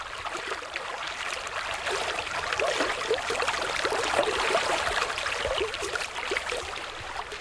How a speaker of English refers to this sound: we're standing here on the banks of the San Pedro River. It's absolutely beautiful. There's not a cloud in the sky.